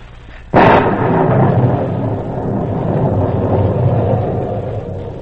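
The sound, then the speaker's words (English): A fierce night storm over the island of Saint Marguerite, off the southern coast of France: a sudden loud crack of thunder breaks out, then rolls into a long, heavy rumble over steady howling wind, the storm noise staying loud throughout with no voices. “Above the howling wind and crashing thunder,”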